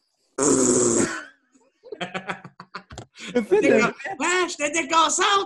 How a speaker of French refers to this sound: Ça a l'air, gros, j'ai pété dans mon téléphone, vraiment intense.